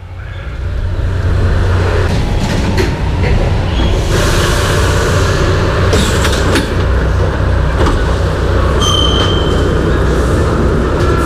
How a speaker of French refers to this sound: J'ai dit « Après tout, tiens, on va illustrer la chanson avec des bruits de métro, des machins, ça va être marrant. » On écoute l'intro, si tu veux.